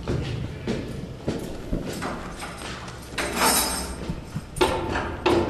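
Hard, irregular footsteps thud and scrape on a stone surface, fairly close, with sharper knocks and a door-like clatter near the end; no voices.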